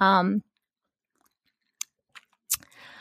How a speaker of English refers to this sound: Take a sip of my water.